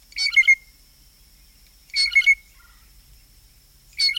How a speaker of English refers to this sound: And as familiar as the typical call might be, these birds are immensely creative vocalists with a large vocabulary of other calls, including piping notes.